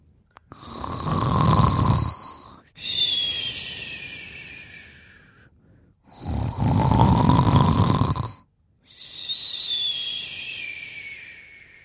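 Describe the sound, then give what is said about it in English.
A father fast asleep and snoring loudly: two full cycles of a rumbling, rattly inhale followed by a whistling, wheezy exhale, steady, with brief pauses between breaths. “父はいびきをかいてグーグー眠っている。 Dad is fast asleep and snoring.”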